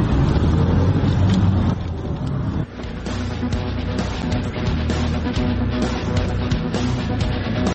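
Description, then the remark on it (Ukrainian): Steady, loud rumble of a taxi driving along a highway toward Zhytomyr, with a continuous engine and tire drone and faint clicks and rattles, no voices. “Перед нами зупинився водій таксі.”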